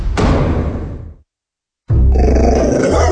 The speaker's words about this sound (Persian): ببخشید جناب، نژاد سگتون چیه؟ پیت بول. چند سالشونه؟ 2 سالشه ولی مشالله مثل 5 ساله هست. خوش اخلاقه؟ بد اخلاقه؟ وای نگین، he's so friendly. آروم و خوش اخلاق.